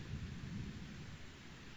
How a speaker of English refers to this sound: Thank you for sending rain upon the earth.